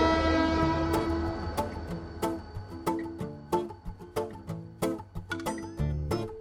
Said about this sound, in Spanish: Ya llega el tren de la Fundación de los Ferrocarriles Españoles, en el que hoy viaja una de las personas que se encargan de llevar el ferrocarril hacia el futuro en nuestro país.